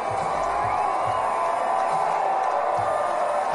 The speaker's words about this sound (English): This, by far, the loudest the crowd has been tonight. And for good reason, the Aviators have given them something to cheer about in the bottom of the ninth inning.